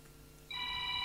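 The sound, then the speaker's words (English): An electronic telephone ring starts halfway through, a steady bright multi-tone trill that stands out clearly over a quiet background hum, with no one speaking. “Ah, phone.”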